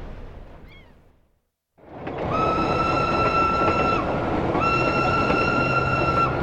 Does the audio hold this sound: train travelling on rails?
yes